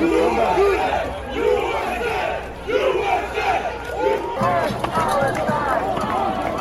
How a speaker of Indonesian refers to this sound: Teriakan USA, USA, dan bebaskan Palestina terdengar sementara botol dan kadang-kadang potongan kayu dilemparkan.